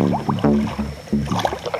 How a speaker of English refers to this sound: The next day, we got our canoes and launched down the river.